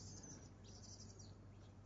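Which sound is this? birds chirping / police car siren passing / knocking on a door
birds chirping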